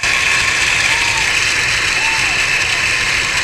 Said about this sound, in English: That sounded like cheer to me.